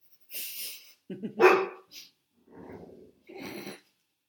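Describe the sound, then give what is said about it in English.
An anxious dog barks in several loud, uneven bursts, some sharp and others rougher and lower, separated by brief pauses. “That happens when you have a very anxious dog.”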